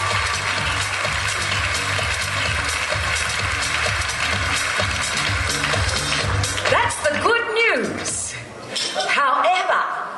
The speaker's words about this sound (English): So let's give the organizing committee a big round of applause.